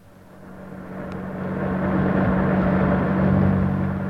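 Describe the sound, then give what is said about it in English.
A car engine drones steadily as it drives, a low rumbling hum that swells louder over the first couple of seconds and then holds. No one speaks. “That car is following us.”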